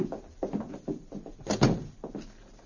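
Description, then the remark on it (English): A hotel room door is pushed shut with a solid thud amid rattling handle and latch noises, then a lock is turned with a few short clunks, locking a young man inside the room. No voices. “After locking the door, the two men walked away down the hotel corridor.”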